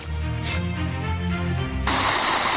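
A low, humming drone gives way abruptly to a loud, steady rush of flowing river water that fills the last second, constant with no voices.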